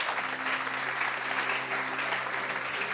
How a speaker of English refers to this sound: Let us clap.